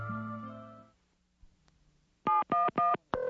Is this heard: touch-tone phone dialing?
yes